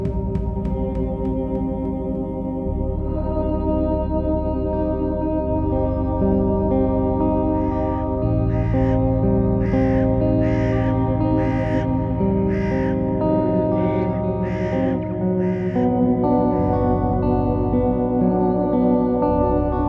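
Crows caw while circling over a field in a rapid series of harsh, evenly spaced calls through the middle stretch, set against a steady, sustained musical backing with no talking.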